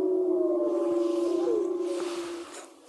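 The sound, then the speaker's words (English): Wolves howling together, long sustained mid-pitched tones overlapping, one voice sliding downward partway through while the chorus holds steady and then fades. No one speaks. “They howl for about 2 minutes.”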